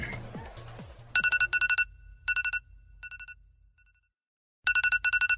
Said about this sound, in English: turn your fucking alarm off.